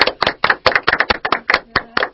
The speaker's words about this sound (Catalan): Bé, fantàstic, això s'ha d'aplaudir.